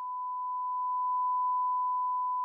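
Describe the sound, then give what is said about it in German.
A steady, pure electronic sine tone holds at one high pitch for about two and a half seconds, smooth and unchanging with no overtones, alone and moderately loud. “Die Eigenschaften dieses individuellen Klangs, er klingt hoch, synthetisch, obertonarm, statisch. Seine Bezeichnung lautet Sinuston.”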